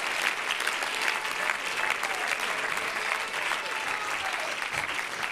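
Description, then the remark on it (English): An audience at an apostolic church service claps their hands and cheers, a dense, steady wash of applause with voices shouting underneath, sustained and loud throughout. “If you're glad to be an apostolic, clap your hands, lift up your voice.”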